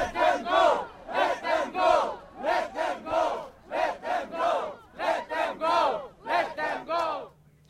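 A protest crowd at a demonstration met with heavy police repression chants in unison, peacefully demanding the release of those just arrested, shouting short rhythmic phrases in repeated bursts, loud and steady, with brief pauses between each cheer-like slogan.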